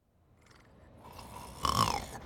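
A sleeping boy snores, heard during a phone call: one long, rasping inhalation that swells gradually and peaks in a louder, throaty rattle near the end, with no talking.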